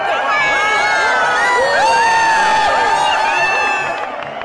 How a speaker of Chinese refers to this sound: 各位在场的观众，尖叫声！尖叫声！